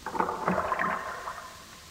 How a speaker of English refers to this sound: The sound of their oarlocks